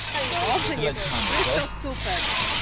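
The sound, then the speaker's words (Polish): A hand saw rasps through a wooden log in steady back-and-forth strokes, each long gritty pass separated by a brief pause, fairly loud, with faint voices murmuring in the background. “Nie naciskamy tylko, bo jak się naciska, to ta piła się wykrzywia.”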